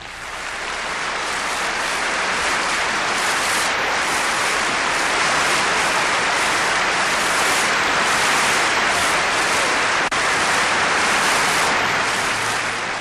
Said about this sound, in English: The Pope raises his hands again and again in acknowledgement of the Assembly's applause.